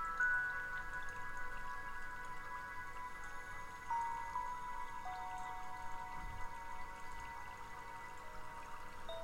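A small waterfall trickles steadily into warm water, flowing gently down the back of a person leaning against it, with soft scattered drips over a continuous gentle rush of water, calm and fairly quiet, accompanied by faint sustained tones.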